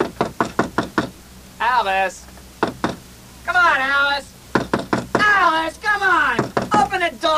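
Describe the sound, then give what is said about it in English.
Loud knocking on a door in quick bursts of several raps, alternating with a man's urgent shouting to open the door between the knocks, in a radio drama on KCUF Radio's Mystery Theater. “Open the door, Alice!”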